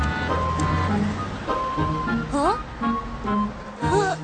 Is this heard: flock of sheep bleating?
no